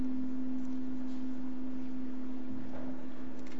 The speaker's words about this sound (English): What should we do about this humming, you think?